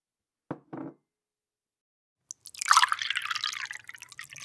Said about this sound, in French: Bob tira son ami vers le bar et servit un second verre de whisky.